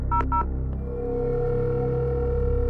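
phone keypad dialing tones

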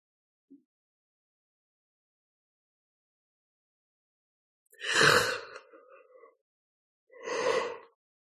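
yawning

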